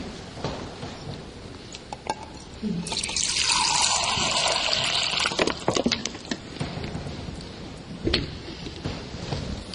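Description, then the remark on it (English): Water pours steadily into a glass of grenadine syrup for about three seconds, a bright splashing gush, followed by a few light clinks and handling sounds. “I even brought some water along with me. I made the mistake of not opening it up beforehand. There we go.”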